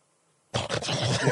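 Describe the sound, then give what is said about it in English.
After a moment of silence, a person imitates the loud, harsh snore of someone with sleep apnea: a rough, rattling snort lasting about a second, with a slight break partway through before it pushes on. “My father used to joke because he would snore, and then he'd do the...”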